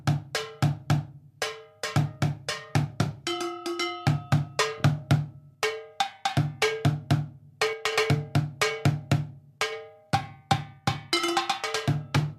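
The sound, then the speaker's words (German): Improvised drumming on metal pots or metal flower pots and a plastic crate or bin: sharp, ringing high metallic clanks from the pots over dull, low thumps from the plastic in a quick, uneven rhythm, played steadily with no voices. “ich nehme immer irgendwelche Töpfe oder Metallblumentöpfe und dann irgendwas aus Plastik.”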